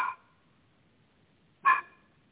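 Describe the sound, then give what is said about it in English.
Two short, high-pitched yaps from a puppy, one right at the start and another about a second and a half later, each sharp and brief over a quiet background. “I think that puppy wants to help.”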